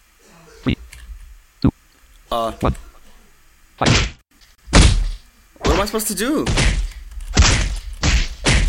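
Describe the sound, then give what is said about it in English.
Several sharp clicks and thuds of random computer keyboard keys being pressed at irregular intervals while trying out a game, some heavy and loud, with a person speaking briefly among them. “I'm just pressing random keys.”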